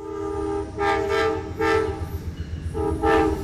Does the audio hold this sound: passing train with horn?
yes